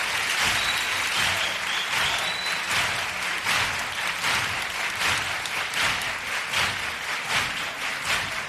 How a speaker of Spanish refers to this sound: Ovación cerrada para el chirigotero. El aplauso no termina, sin lugar a duda el más largo de toda la noche y de todo el concurso de coplas.